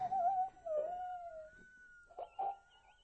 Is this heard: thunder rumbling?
no